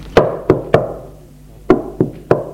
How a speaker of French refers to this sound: On a frappé à la porte de la chambre.